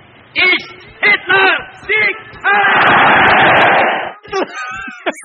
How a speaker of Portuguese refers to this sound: Ai, caraca, a vírgula sonora do Nerdcast, cara.